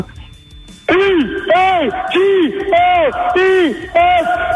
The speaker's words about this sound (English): Now that's a great echo. That's a great chant